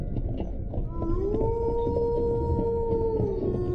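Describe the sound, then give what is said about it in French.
A long, sustained howl of wolves rises and holds steady over a constant rush of wind sweeping the trees, sounding distant and mournful, with no talking. “Et vous entendez, au loin, le hurlement des loups.”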